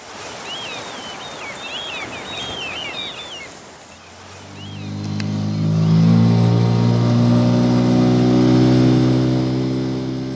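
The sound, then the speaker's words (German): Birds chirp over a rushing, splashy background, then a boat motor starts up around midway and drones steadily and loudly through to the end. “Motor wieder aus.”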